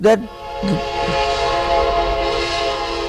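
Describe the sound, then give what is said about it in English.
A train whistle blows in one long, steady, sustained tone that lasts throughout, fairly loud, with a brief voice heard faintly at the start. “that brought a whistle.”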